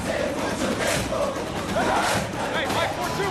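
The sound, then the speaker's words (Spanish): A roaring stadium crowd cheers and chants without pause, a dense wall of many voices with occasional louder shouted surges rising above the steady din. “Hay diferentes maneras de ir a un estadio.”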